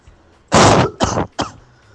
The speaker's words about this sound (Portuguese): Filha da puta, viu, meu? Fica tossindo na cara dos mais educados, vagabundo.